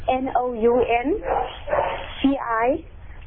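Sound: dog barking loudly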